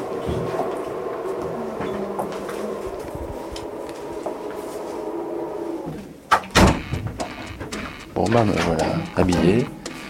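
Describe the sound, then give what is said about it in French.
An automatic sliding door to an autopsy room at a forensic medicine institute opens by itself as a person approaches: a steady mechanical hum drones for several seconds, then a sharp clunk is followed by bursts of whirring motor noise, with faint voices in the background. “Dès que je m'approche de la porte, elle s'ouvre toute seule.”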